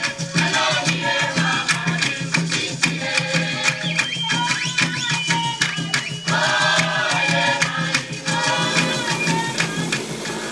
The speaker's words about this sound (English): Botswana sorghum milling relies on a machine which is called sorghum dehuller and hammer mill.